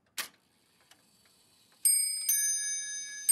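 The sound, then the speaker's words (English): An antique astronomical clock on the desk in King George III's library at Buckingham House sounds: a sharp click and a few faint ticks, then two bright, ringing chime strikes that hang and sustain to the end. “This astronomical clock had pride of place on the desk”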